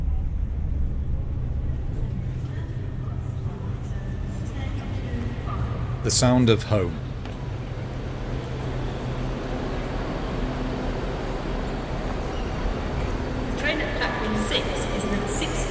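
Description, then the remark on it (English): A train heading north rumbles steadily along the track in a constant low drone, broken midway by a brief, sharper clatter, while a person speaks briefly over the noise. The next station is Newcastle. “The rumble of the track.”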